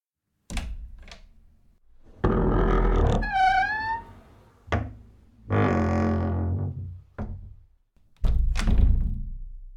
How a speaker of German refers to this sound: Dann schob er die schwere Tür des Sprechzimmers auf.